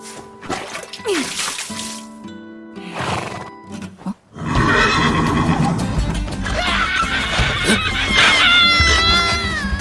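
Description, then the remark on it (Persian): A horse whinnies loudly a few times, shrill and wavering, then a dense burst of louder neighing and snorting fills the rest, with rough noisy commotion underneath. “فکر میکنم کار اسب. هیچ اسبی به تو اجازه نمیده که سوارش بشی.”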